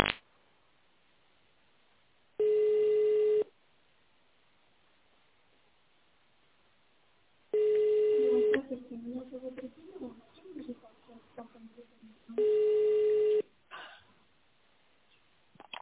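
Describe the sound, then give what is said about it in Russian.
A telephone busy signal on a transferred call to the Spetsagregat factory: three steady, mid-pitched one-second tones, spaced about five seconds apart, with a person talking between the second and third tones. “Ну, я вот вас переводила, видимо, звонок вернулся, линия занята, сотрудник разговаривает, перезвоните позже.”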